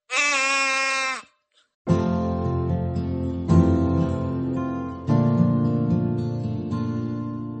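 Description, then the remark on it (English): A single loud sheep bleat lasting about a second, followed by a brief silence and then steady instrumental music with sustained chords. “And we'll be talking about some famous sheep right now.”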